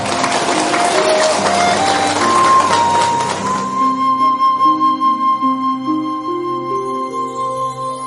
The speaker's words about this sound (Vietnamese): Dạ, A Di Đà Phật. Quý vị cho một tràng pháo tay. Dạ, chúng ta cho một tràng pháo tay nha.